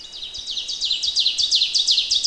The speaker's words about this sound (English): There's songs all around me, but the teacher, teacher, teacher, teacher is the oven bird. And it's not the bird closest to me, but it certainly has got to be the loudest.